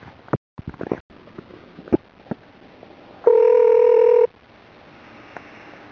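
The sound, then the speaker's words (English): Scattered clicks and taps from a phone being dialed to call back, followed by a single steady electronic ring tone lasting about a second, clear, with no voices. “I'll call back.”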